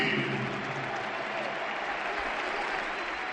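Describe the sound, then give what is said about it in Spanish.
A standing crowd of nearly 60,000 fans at the Camp Nou applauds Gavi's return in Barça's rout of Sevilla, a continuous, dense roar of clapping that stays loud and steady throughout, with a broad wash of cheering underneath and no clear voices. “Rafinha y todo el Camp Nou en pie, casi 60.000 aficionados para despedir a Rafinha y sobre todo para aplaudir a Gabi, que reaparece casi seis meses después.”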